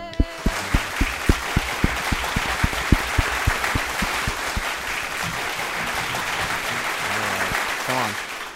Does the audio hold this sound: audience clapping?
yes